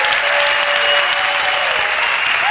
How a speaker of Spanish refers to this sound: La gente va a decir, ¿por qué se aplaude tanto en Cataluña?